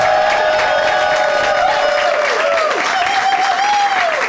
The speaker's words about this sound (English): My name, still clapping, I love it. Enthusiastic Thursday night.